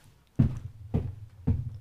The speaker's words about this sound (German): und öffne das dann und lasse es dann wieder zuklappen mit einem Klatscher. Und dann stampfe ich noch dreimal. Es hört sich dann so an.